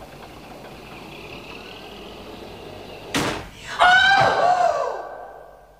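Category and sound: household object, door slamming shut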